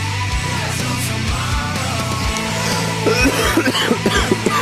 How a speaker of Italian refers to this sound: basta con questa tosse, basta, basta, sei insentibile, veramente hai rotto i coglioni, cazzo.